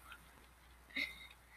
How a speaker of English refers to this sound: Sipping water. ASMR time. So good.